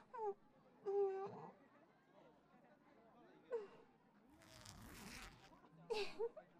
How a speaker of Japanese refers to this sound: やった、ジッパーを下ろせたルミ。